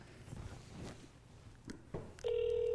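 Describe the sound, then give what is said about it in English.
A few soft clicks and rustles of handling, then a loud, steady telephone ringback tone starts abruptly and holds through the end, as heard when placing an outgoing call. “So we're going to call Nicole now.”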